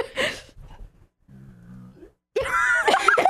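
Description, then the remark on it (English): A drawn-out, low, tonal burp lasting under a second, fairly steady in pitch and moderately loud, followed by a burst of louder, harsher vocal noise. “I don't know why I'm burping. That burp should be in the opera.”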